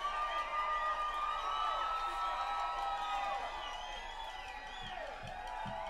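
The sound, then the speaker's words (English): A large audience cheers and whoops continuously for the backup dancers, many overlapping voices rising and falling over a steady crowd roar that stays loud for the full stretch, with applause mixed in. “Y'all give our backup dancers here another big round of applause.”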